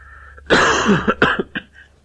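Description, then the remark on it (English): A harsh cough bursts out, followed by a few shorter rasping coughs and throat-clearing sounds tapering off over about two seconds, with no talking. “You'll get many coughs today. I'm sorry about that.”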